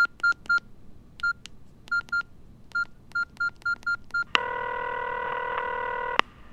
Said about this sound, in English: and I dialed. I was feeling a bit nervous at this point because speaking on the phone in a foreign language is never easy.